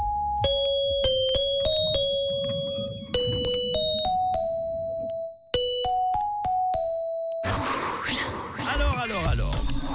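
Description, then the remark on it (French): A pop song from the 2000s played as a bright, beeping monophonic Nokia phone ringtone, crisp notes in a quick bouncy rhythm with a brief pause midway, giving way to a loud, noisy wash of sound. “Je vais diffuser un titre en sonnerie Nokia, un titre des années 2000.”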